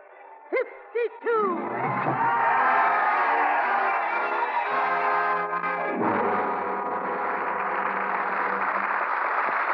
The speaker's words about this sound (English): We lower our curtain on the roaring crowds of Paris and the sacrificial destiny of Sidney Carton